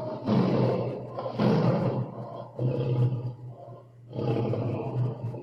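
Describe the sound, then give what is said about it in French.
A lion roars four times in quick succession, each deep, rumbling bellow loud, separated by brief pauses. No voices are heard. “Cependant, il advint qu'au sortir des forêts, ce lion fut pris dans des raies, dont ses rugissements ne le purent défaire.”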